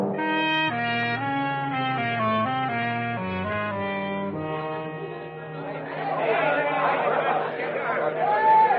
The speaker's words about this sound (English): Led on by an enthusiastic press, a tremendous crowd assembled at Coney Island to watch Sam perform.